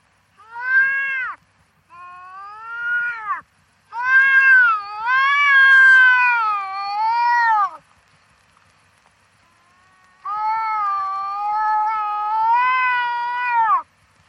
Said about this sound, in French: Le cri que vous venez d'entendre est celui du chat sauvage.